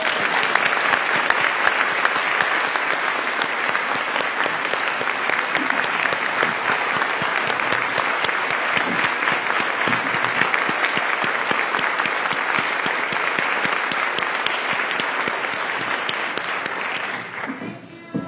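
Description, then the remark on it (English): Sustained audience applause at a council meeting, a dense, steady clatter of many hands clapping at an even loudness for about seventeen seconds before tapering off at the end. “So could I have a round of applause for them?”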